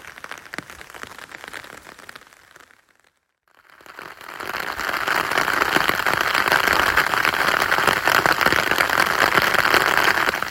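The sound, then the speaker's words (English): A heavy rain shower turning to hail, heard from cover in Oxclose Wood: dense hissing patter that briefly drops almost to silence, then returns louder as a steady, crackling rattle of hailstones, with no voices. “Indeed, it's gone from heavy rain to hail, which is quite interesting.”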